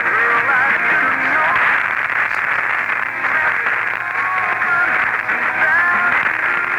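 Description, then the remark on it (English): An AM radio station on 970 is received in lower sideband mode to cut out interference from a station on 980, its voice and music muffled and band-limited under a steady hiss of static and faint crackle. “WESO sounding much better in the lower sideband mode, eliminating WCAP interference.”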